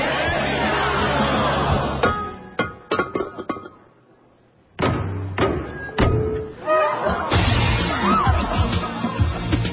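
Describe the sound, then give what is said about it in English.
At a wedding, the maid of honor smashes a vase as a tradition for the bride and groom: a sharp crash and a few scattered clinks of breaking pieces, amid a lively crowd that briefly hushes, then bursts back into loud chatter and cheering. “The maid of honor shatters a vase, and it symbolizes happiness for the bride and groom.”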